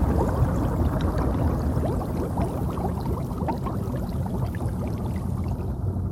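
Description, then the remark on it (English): Continuous bubbling and churning water, dense and steady, with many small pops and gurgles blending into a muffled underwater rush, as bubbles rise in dark blue sea water after a scuba diver falls backwards off the side of a boat. No voices. “Bubbles rise and float in the dark blue water.”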